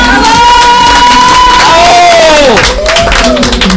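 Loud, continuous audience applause mixed with crowd cheering at the close of a Radio Sónico show, accompanied by high gliding whistle-like tones that rise and fall above the clapping throughout.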